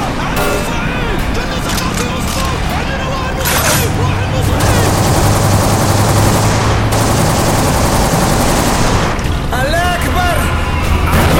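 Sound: gunfire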